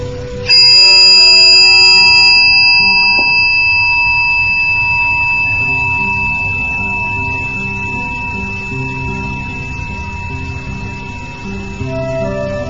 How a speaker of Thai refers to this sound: เจริญพรทุกท่านหลับตาเมื่อได้ยินเสียงระฆังดังขึ้นขอให้ทุกคนอยู่กับลมหายใจ